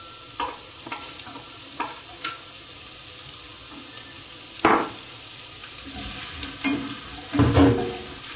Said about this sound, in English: Let's start by putting some onions. Frying some onions.